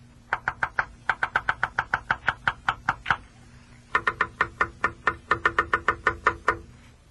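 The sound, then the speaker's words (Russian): A female woodpecker drumming on wood in reply to her mate: two long runs of sharp, hollow knocks at a steady, fairly quick rhythm, separated by a brief pause. No one speaks. “Это моя дятлиха мне стучит.”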